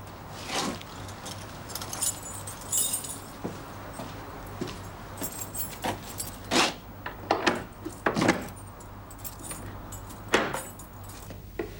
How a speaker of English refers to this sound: He pushes his bike up to the back door, gets off, and takes keys from his pocket. He unlocks the door.